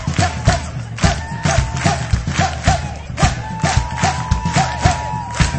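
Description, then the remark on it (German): An audience claps along in steady unison to a performer's groove, sharp rhythmic claps repeating about twice a second over faint music, with some crowd voices mixed in. “Und ihr klatscht mit.”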